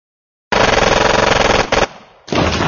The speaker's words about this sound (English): As the other guard stuffed two fingers in his mouth to whistle for more sec men, Kinnison rammed the MAC-10 into the opening and fired off a sweeping burst.